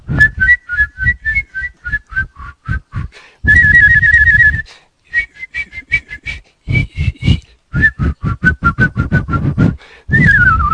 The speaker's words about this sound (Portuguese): A gente tem um hábito de assobiar em terça, que se sair agora eu vou até fazer pra vocês, assim, ó.